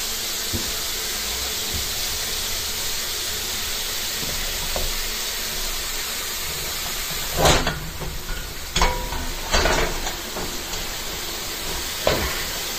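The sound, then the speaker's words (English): A hot skillet, grabbed with a gloved hand and put into plain water in a plugged sink, sizzles and hisses, with a steady hiss and several sharp, louder bursts of crackling steam in the second half. No one speaks. “Grab my skillet with a gloved hand.”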